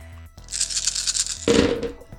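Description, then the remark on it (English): Many dice are rolled, clattering and rattling across a hard surface, a busy burst of clicking that settles into a lower, tumbling rattle before stopping. No one speaks. “A lot of dice.”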